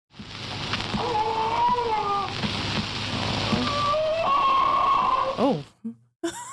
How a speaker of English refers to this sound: A record company even recorded Hachi's bark. Would you like to hear it? Yeah. So, quality's not great. Okay. More like a howl than a bark, but I'm going to play it for you.